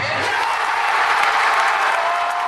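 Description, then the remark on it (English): A large crowd at a basketball watch party in a hall claps and cheers loudly and without a break, a dense roar of applause for the whole moment. “When the Illini fought back to tie, things revived in the hall, as if the crowd was trying to yell through the monitors all the way to St.”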